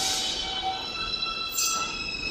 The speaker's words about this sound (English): It's a sound that you hear when you're standing on the platform and the train is just about to leave the station. And you hear these three pure high tones.